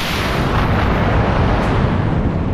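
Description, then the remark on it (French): A steady, loud roar of a rocket firing after a cannon fuse is lit, dense and rumbling with a hissing edge, holding constant throughout with no voices. “Alors là, je m'enflamme et la mèche du canon aussi.”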